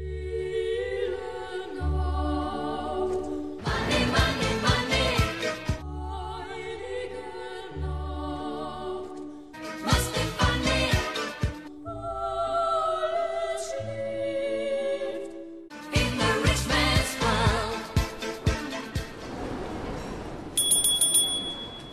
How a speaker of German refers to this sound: Auf der Wiener Kärntnerstraße hört man bereits Anfang November die Glöckchen läuten.